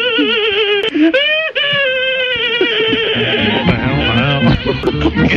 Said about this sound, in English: It's a horse at the end.